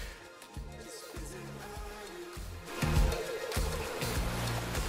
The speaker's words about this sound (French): Vous écoutez ? Est-ce que vous écoutez ? Ah merde ! Les vagues !